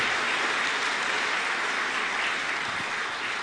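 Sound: audience hand clapping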